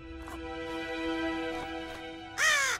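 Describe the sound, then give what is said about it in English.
A raven gives one loud, harsh, brief caw near the end, after a stretch of quiet background with a faint steady hum. “We'll see who's a raven now.”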